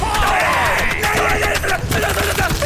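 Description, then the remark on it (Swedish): A high-pitched yell of "nej, nej, nej" (Swedish for no, no, no) rising over a noisy, busy background with sharp bursts and crowd-like commotion, loud, lasting a few seconds. “Okej, för det var någonting när du skrek nej, nej, nej.”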